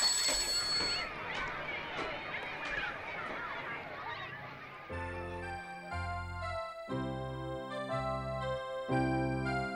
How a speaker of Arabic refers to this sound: ولما سمع الطلاب جرس المدرسة ذهبوا إلى صفوفهم كلهم.